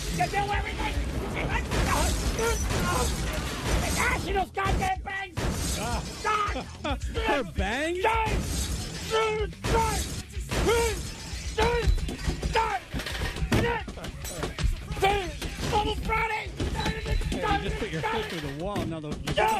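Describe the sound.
Loud crashes and shattering smashes repeat in rapid, irregular bursts as objects, including a Bluetooth speaker, get bashed with a bat in a rage room, with voices shouting and talking over the racket throughout.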